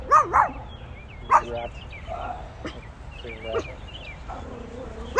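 A small dog yaps in short, high-pitched barks, two quick ones at the start, then a few more spaced out, over a steady buzzing hum in the background.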